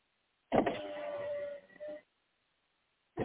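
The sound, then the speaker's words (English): Inside a car being driven, a loud mechanical whir starts abruptly, holds a steady motor-like tone for about a second and a half, then cuts off into silence before another brief burst begins. “Okay, I'm driving, so that's probably why you hear that, or some shaking or whatnot within the car.”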